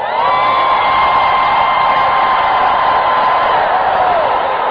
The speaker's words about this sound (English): Lift your hands and scream for 5 seconds.